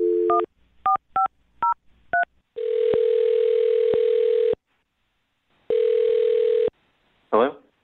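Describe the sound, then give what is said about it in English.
Five quick touch-tone beeps of a phone number being dialed to call a man, followed by two long electronic ringback tones separated by a pause, then a brief burst of a voice answering at the end. “I'm going to dial his phone number right now and see if we can find out why he's not calling you back, okay?”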